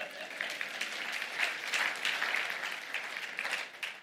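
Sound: audience applauding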